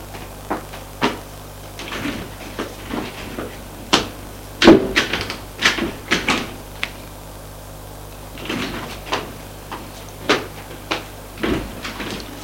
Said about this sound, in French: Il le fait rentrer dans son immeuble. Ils vont prendre l'ascenseur.